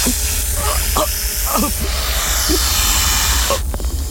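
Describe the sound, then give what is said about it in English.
Snakes hiss in a loud, steady rush that fills the whole stretch without pause, with a few short muffled vocal sounds breaking through underneath. “My snakes! Guys, God. Did you follow me all the way up here?”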